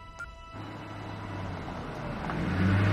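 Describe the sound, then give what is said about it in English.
A car engine hums low and steady, growing gradually louder as the vehicle drives up and parks in Ben's driveway, with no one speaking. “Later, a car parks in Ben's driveway.”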